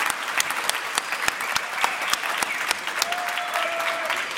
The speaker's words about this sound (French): et notamment au public des Utopiales, venus nombreux pour cet enregistrement, de même que pour tous les enregistrements des émissions de France Culture, un public que j'applaudis et que je salue.